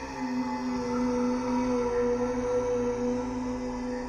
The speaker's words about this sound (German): Am unheimlichsten waren die geisterhaften Brummtöne, die das Haus von allen Seiten überfielen.